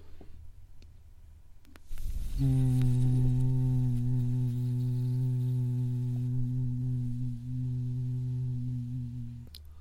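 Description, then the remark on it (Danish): A single deep, low-pitched sung 'O' vowel, voiced as a vocal warm-up exercise, held steadily for several seconds, strong, starting after a brief quiet pause and sustained without words. “En variation af øvelsen er at bruge det her fornemmelse af plads til et O ind i munden. Og så lægge tonelejet helt dybt, så du siger”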